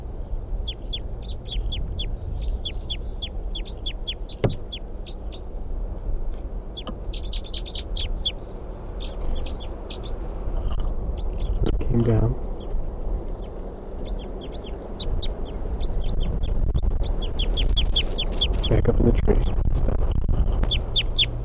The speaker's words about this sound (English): That wild bird, I think, is still in the tree, but it's very quiet, and the decoys are also very quiet.